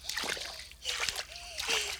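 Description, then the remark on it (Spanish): Splashing in rough sea water, like someone swimming through big waves, comes in three broad bursts of sloshing and spray, moderately loud, with faint tonal whistles between them. “¡Qué grandes están las olas!”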